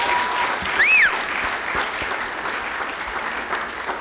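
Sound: round of applause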